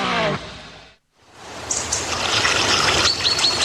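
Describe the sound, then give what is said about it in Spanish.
Water trickles and flows steadily after a brief silence, a continuous bright splashing wash with small droplet patters, moderately loud, with no voices. “Donde fluye el agua, crece la vida en nuestras comunidades.”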